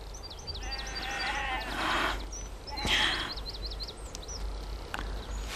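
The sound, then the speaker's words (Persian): A couple of sheep on a farm bleat loudly, one around the middle and another shortly after, over steady outdoor ambience with small birds chirping high in the background. “فکر کردم اگر مزرعه رو بفروشم از شر گوسفندا خلاص بشم، اون مجبور میشه از اینجا بره و منم دوباره زندگیمو شروع میکنم.”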